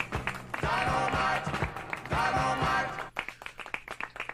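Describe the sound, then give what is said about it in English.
Hands clap in a quick, uneven run of sharp smacks near the end, after a busier stretch of loud, tonal noise with claps mixed in. “Hey, yo, clap it.”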